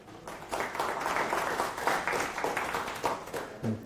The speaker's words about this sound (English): little round of applause and we get started.